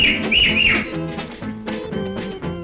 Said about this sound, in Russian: Незнакомый переулок завела. Завела! И три раза громко свистнула она.